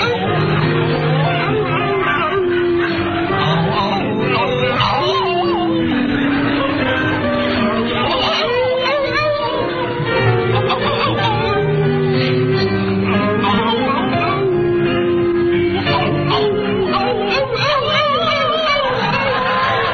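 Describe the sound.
Voices imitate howling wolves while singing an old French song, drawing out wavering, wailing tones that follow a slow melody, loud, over a constant background of crowd noise and chatter.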